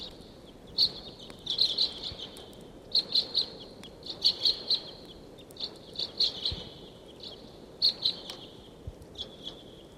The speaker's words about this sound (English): That's 749 calling loudly there. It sounds like the birds are coming down the gulch.